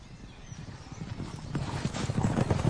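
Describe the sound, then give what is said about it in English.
Hooves clip-clop in a steady, quick rhythm as a horse-drawn carriage rolls along a well-kept, tree-lined avenue beside a river, the rumble and clatter growing louder over the few seconds, with no voices. “A herd of stag are disturbed as the carriage drives along a well-kept avenue lined with trees, a river running alongside.”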